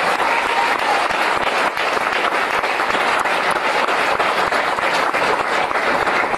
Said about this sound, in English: And of course, British Columbia Lotteries. Couldn't have done it without them. Now, yes, give them applause, folks.